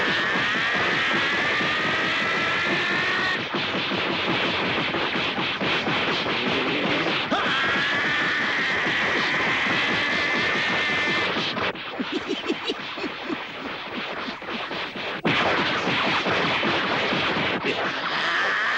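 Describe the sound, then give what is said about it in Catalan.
A loud, continuous whirring whoosh as Tenshin beats his arms like two propellers at full speed on either side of his body, packed with rapid thwacks as his punches land on Goku in quick flurries, cutting abruptly between bursts, with no talking. “En Tenshin obre els braços i els bat com si fossin dues hèlices a tota velocitat a banda i banda del cos, que absorbeixen lentament en Goku i el cusen a cops de puny a tort i a dret.”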